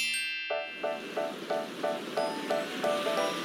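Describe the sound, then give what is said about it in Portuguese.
A steady rushing wash of wind and waves at the bow of a moving ship sailing along the coast of China rises after a brief tonal opening. A regular train of short, ringing pulses repeats over the noise, and no one speaks. “E posso sentir o vento no meu rosto! Está falando comigo? É isso mesmo, garotinha. Isso acontece quando você está na proa de um navio.”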